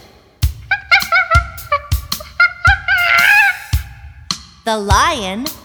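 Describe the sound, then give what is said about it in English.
A rapid series of sharp, shrill monkey calls, about a dozen short hoots and chatters, building to a longer wavering squeal near the end. “The monkey lives at the zoo.”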